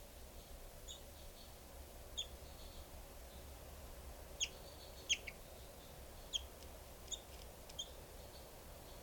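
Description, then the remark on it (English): Short, high-pitched calls from two birds, numbered 395 and 425, repeat irregularly over a steady low hum, some chirps overlapping as the two call back and forth. “395 and 425 both calling.”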